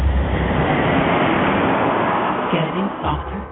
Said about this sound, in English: Look up the loud airplane. The loud airplane.